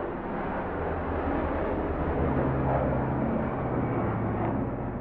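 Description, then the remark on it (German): A steady, droning rumble of helicopters constantly circling over Kabul, Afghanistan, a dense low whir with a faint tonal hum that holds at an even level from start to finish, with no voices. “Über Kabul kreisen ständig Hubschrauber.”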